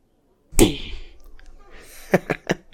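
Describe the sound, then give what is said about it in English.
A single sharp, loud slap lands, its crack fading quickly into quiet rustling, followed by a few short, soft clicking or breathy sounds. “Yeah, I did slap you.”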